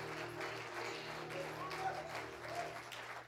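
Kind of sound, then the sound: crowd, audience clapping hands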